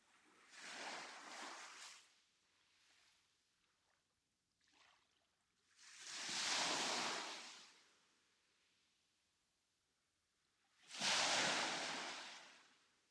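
Small waves wash gently onto the shoreline in soft, hissing surges, three main swells spaced several seconds apart with a faint ripple between, quiet, with no voices.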